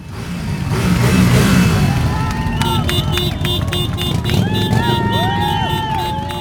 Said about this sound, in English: Riders wearing black jackets from the Moving Violations Women's Motorcycle Club lined up their bikes as onlookers cheered and waved rainbow flags in Copley Square. They revved their engines, and with that, the Boston Pride Parade of 2023 was off.